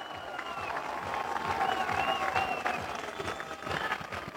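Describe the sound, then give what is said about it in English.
A large baseball crowd cheers and applauds steadily after a two-run home run by Jack Matthew for the Raptors in the bottom of the sixth inning, a dense wash of clapping and roaring voices that swells in the middle and stays loud throughout, with a faint whistle or two above it. “This crowd is loving it, and it's a one-run ball game.”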